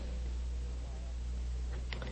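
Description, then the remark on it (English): Paper rustling from an audience turning Bible pages to find Jeremiah chapter 36, steady and soft as many pages are turned at once, with a few sharper crinkles and flips near the end over a low background hum. “I'd love to hear the rustling of the leaves. Keep rustling till you find it.”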